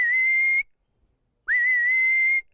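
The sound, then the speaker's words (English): A Hadza person in the Yaeda Valley whistles to call honey-guiding birds, which lead them to honey: two long, steady high notes, clear, with a short silence between them; the second note swoops up briefly before holding level. No talking. “And even whistling to birds, which leads them to honey.”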